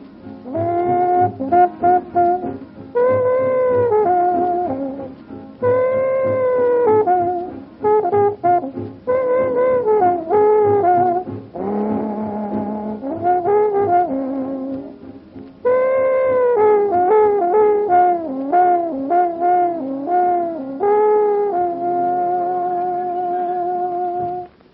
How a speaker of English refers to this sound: Looky here, old trombone got too heavy for the lazy Mr. T. Doggone if the bell didn't fall right off. Boy, Mr. T's got to play it on half a trombone now.